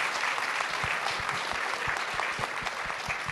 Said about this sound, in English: let's give him some applause.